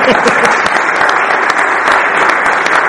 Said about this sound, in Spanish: Vamos a seguir con las conferencias. Un aplauso a nuestro amigo